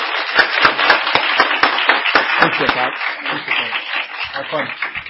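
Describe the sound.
A church audience bursts into loud, sustained applause to welcome a visiting preacher to the pulpit, dense overlapping claps steady for about five seconds, with some voices mixed in and a slight easing toward the end.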